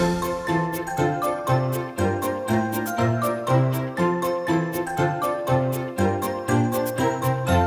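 A baby rattle jingles in a steady rhythm, roughly two shakes per second, with bright tinkling bursts over a bouncy musical accompaniment. No one speaks.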